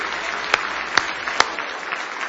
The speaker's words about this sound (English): Now give Jesus one more big old hand clap of praise if you love him this morning.